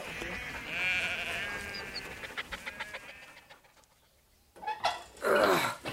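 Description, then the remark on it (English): Sheep bleat in a wavering chorus while a dog barks in short, sharp bursts among them, a brief lull, then a loud bleat swells at the end. “This blasted mongrel!”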